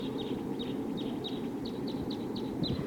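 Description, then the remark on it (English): A wild bird flock calls in flight, giving a steady series of about eight short, high chirps spaced evenly apart, fairly faint over a constant low rumble of wind or background noise. “I definitely hear a wild bird, at least one, flying around here.”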